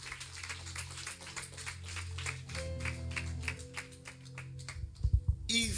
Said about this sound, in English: Clap your hands, friends.